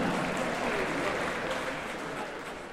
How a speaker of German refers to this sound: Großen Applaus, meine Damen und Herren.